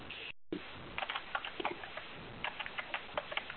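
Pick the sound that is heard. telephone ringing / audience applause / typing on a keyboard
typing on a keyboard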